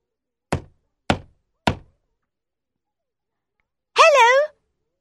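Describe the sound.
Little Red Riding Hood knocks three crisp, evenly spaced, fairly loud knocks on the wooden door of Grandma's house, followed after a pause by a short vocal sound from a voice.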